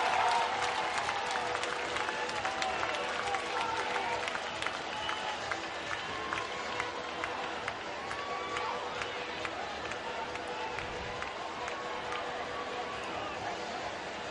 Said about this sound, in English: Both benches clear. And how about some fireworks here in the top of the sixth before we even have a show after the ball game? The umpire is clearing the field. Crowd on their feet here at Atrium Health Ballpark.